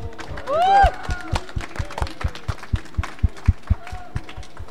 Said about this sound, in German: Applaus für die Kandidaten, bitte.